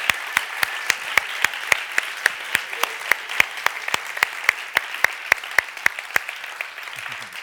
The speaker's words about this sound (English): Est-ce qu'on peut l'applaudir bien can fort? Can we give him a big, big hand as he comes on stage?